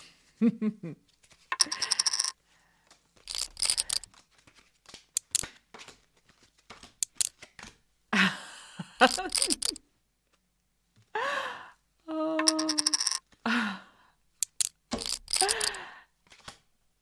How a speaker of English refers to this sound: Right. Let me shuffle. And I'll deal.